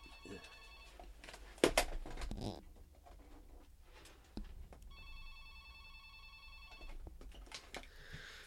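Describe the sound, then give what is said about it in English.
A telephone rings twice with a steady electronic trill, each ring lasting about two seconds. The pause between the rings is filled with brief clattering and handling noise as someone unplugs the phone. No one speaks. “Hold on, I have to unplug the phone.”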